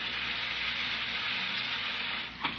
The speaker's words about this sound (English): No, turn on that carbonated water. I want to hear it fizzle.